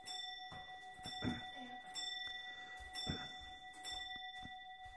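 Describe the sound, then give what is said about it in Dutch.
A clock chimes with sustained, ringing bell tones that layer and overlap throughout, while a person speaks intermittently over the chiming. “Wil ik de klok even uitzetten?”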